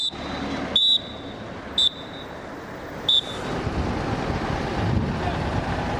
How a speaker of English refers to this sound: Cameroon troops whistle to indicate it is time for the departure of 3,000 Nigerians from the town of Makari to the Nigerian border town of Kukawa in the northeastern state of Borno.